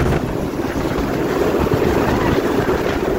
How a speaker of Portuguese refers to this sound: Foi só com o carro da polícia aqui, o helicóptero sobrevoando, muita aglomeração, muito policial aqui na frente do banco.